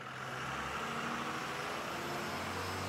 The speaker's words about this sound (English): The bus is around the corner. Here we go. Let's get on the bus.